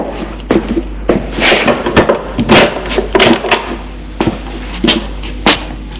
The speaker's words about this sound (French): Là, il ouvre une porte.